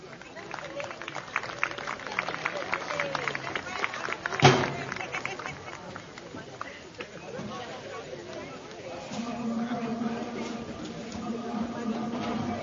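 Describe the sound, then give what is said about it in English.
A baseball crowd claps and cheers steadily for the Cubs' reserve players, with sharp overlapping hand claps over a broad wash of murmuring voices that continues as the clapping thins out. “And please give us a round of applause for the reserves.”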